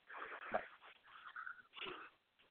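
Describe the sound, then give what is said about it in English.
A puppy rushes into a room with a few quick, breathy snorts and wheezy snuffles, short noisy bursts over a couple of seconds, with no one talking. “A great interview, but my puppy just flew into the room.”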